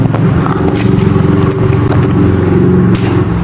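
A loud, steady grinding whir of a toy car's slipping wheels scraping and rattling as the car is handled, continuous throughout with a few brief crackling bursts and no talking.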